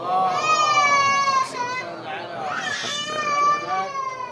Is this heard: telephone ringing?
no